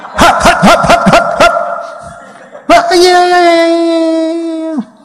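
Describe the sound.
A person imitates a dog, letting out a quick run of about six loud barks, then after a brief pause a long, steady, drawn-out vocal whine.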